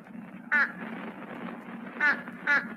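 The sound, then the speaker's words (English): A fish crow gives three short, nasal caws, one alone and then two in quick succession, moderately loud over a steady low background hum. “Page 118, Fish Crow.”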